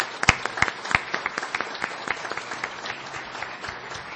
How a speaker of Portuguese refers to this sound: por favor, fiquem em pé e recebam uma salva de palmas desta Casa de Leis.